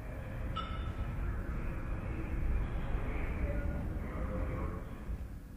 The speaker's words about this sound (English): That's right, the sound of a subway. Now, imagine trying to call... that little voice recognition system with all this going on in the background.